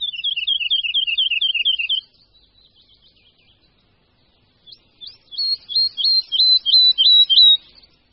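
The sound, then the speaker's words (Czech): A woodlark sings a varied song: a fast, high, rapid trill, then a softer stretch of quiet notes, followed by a loud series of repeated rising whistled phrases. No one speaks. “Žádné prvky se ve zpěvu neopakují, hlasité radostné partie se střídají s tišími, jakoby posmutnělými tóny.”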